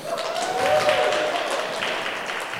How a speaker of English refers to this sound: So you know, and let's break out in obnoxious applause here.